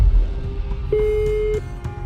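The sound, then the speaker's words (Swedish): A telephone ringback tone on an outgoing call to a former classmate: one steady, clear electronic beep lasting under a second, heard over a low background rumble, with no one speaking. “Jag ringer upp kursaren som var med på Stefan Krons seanser”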